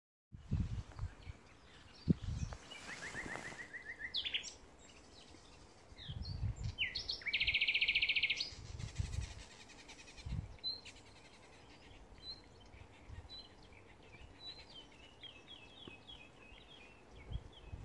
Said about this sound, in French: Les sons de la forêt les accueillirent chaleureusement, avec le chant des oiseaux et le murmure des feuilles dans le vent.